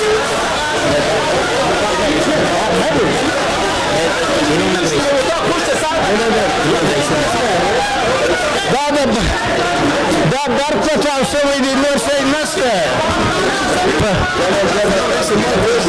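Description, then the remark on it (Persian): A loud, dense crowd clamor fills the whole stretch, many overlapping voices and shouts with scuffling movement, as members of parliament at the National Council in Kabul noisily hurry out of the chamber in alarm after an explosion. “شیشه های مقابل من در دفتر رسانه های شورای ملی از هم پاشید و نمایندگان مردم که آن طرف همین شیشه قرار دارند با سر و صدا از مجلس بیرون می شتابند.”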